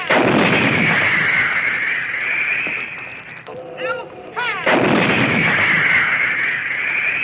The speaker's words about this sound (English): this howitzer pounds round after round into the advancing human sea, which this week again began to attack. Still hear that shell hissing through the air.